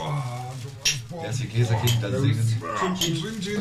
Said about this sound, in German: Ich genieße das Zusammensein, wie auch meine Gäste. Die Gläser klingeln.